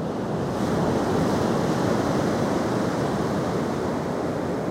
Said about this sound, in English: So, Rebecca Ramirez, almighty producer, cue the waves.